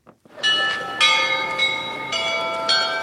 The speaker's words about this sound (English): It's the 100th day of the war, and the bells chime, marking 1 o'clock at St. Michael's golden-domed monastery on a beautiful sky-blue afternoon. It's perched atop a hill, and it stands next to Ukraine's foreign ministry in Mykhailivka Square.